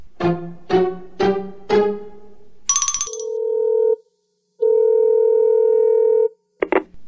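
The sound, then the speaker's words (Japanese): A telephone rings for an incoming call in four quick, evenly spaced bursts, followed by a brief electronic chirp and two long, steady tones, then a click as if the line picks up. No one speaks. “誰かからかかってくるん ですか？”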